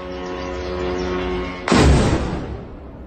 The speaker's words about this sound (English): Video footage that appears to be drones exploding over the suburbs of Moscow. Moscow is blaming Ukraine for the attacks that it says damaged 3 residential buildings.